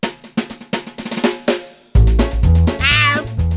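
A cat lets out a single drawn-out, wavering meow near the end, clear, following a run of short sharp knocks and sustained tones.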